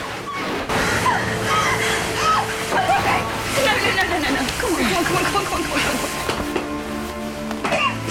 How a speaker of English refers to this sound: Archer helps pull on the rope, which lifts the door, and the limestone pours out